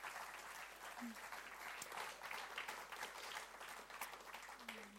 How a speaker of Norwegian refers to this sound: Og gi dere varm applaus.